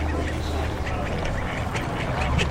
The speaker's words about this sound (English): Well, today is the day. It's dawn, bright, fresh, just a little bit breezy, and the ducks and swans and geese here on the beach at Coniston Water are probably slightly bemused by the hundreds of people who are still arriving.